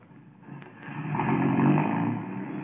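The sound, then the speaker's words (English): A car engine rumbles steadily, swelling louder as the vehicle approaches and passes, then easing off slightly toward the end. No voices are heard. “That car, it sounded like...”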